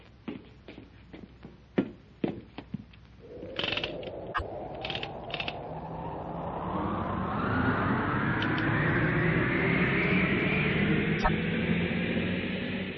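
A few sharp metallic clicks, then a rushing, rising rumble as a large car carrying a load slides fast down copper rails, the roar building steadily and staying loud. No one speaks.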